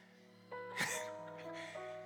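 A person breathes heavily, with one sharp, breathy pant followed by a fainter exhale, over a steady low electrical hum.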